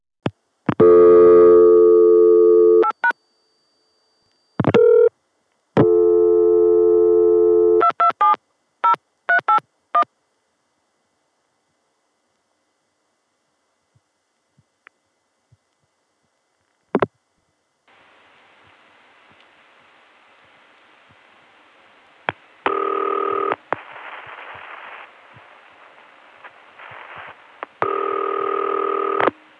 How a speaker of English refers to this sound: When I first tried to record 227 dialed on the Atlanta dial tone